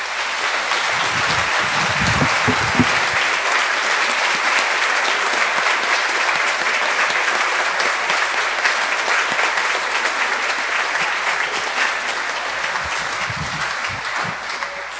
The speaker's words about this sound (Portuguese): Mas hoje nós vamos saudar estes irmãos. Os irmãos podem aplaudir estes irmãos.